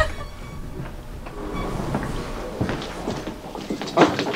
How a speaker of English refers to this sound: Okay, Jerry Media is on the third floor, so we take the elevator. Squeaky elevator.